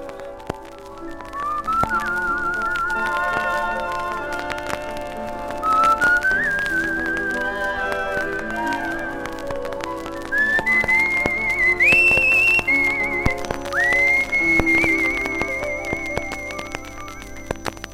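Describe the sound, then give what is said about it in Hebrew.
A person whistles a melody over an instrumental backing, the bright high notes rising in steps and holding steady phrases, clear and fairly loud for about eighteen seconds with no talking. “ותקשיבו, זה גם שורק.”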